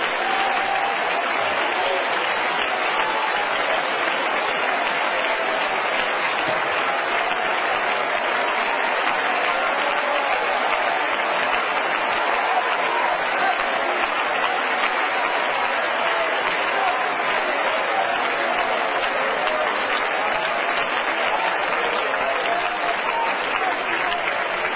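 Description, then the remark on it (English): An audience claps in praise of God, steadily and loudly for about twenty-five seconds, a dense, even wash of many hands with no pauses and no voices standing out. “But would you put a tail on that and clap one more time?”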